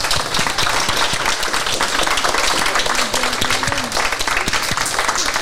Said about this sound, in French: On peut applaudir. Je peux vous applaudir.